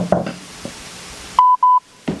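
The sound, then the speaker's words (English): After a moment of faint background noise, a phone line gives two short, steady electronic beeps in quick succession, the tones of a call disconnecting as a board meeting goes into executive session, followed by a brief rustle. “Just hang up the phone.”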